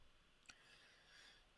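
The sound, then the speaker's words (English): Two quiet, crisp clicks of a computer mouse as someone clicks on a website, spaced about a second apart, over a faint background hiss with no one talking. “I'm clicking on it right now.”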